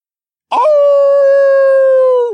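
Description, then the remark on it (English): A single wolf howl, the cry of wolf people, rises sharply, holds a long, steady, loud note, then dips slightly in pitch as it fades out, with no other sounds around it. “The cry of the wolf people caused the terrifying tide beast to pause in the middle of pulverizing us.”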